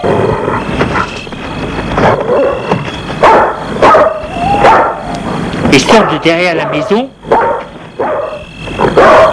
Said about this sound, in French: d'énormes chiens loups, prêts à mordre. Ils courent vers l'entrée de la maison et sautent sur le verre contre le portail pour essayer de mordre les garçons qui se retirent en vitesse.